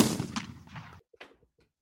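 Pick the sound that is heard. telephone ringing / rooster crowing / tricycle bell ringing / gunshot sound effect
gunshot sound effect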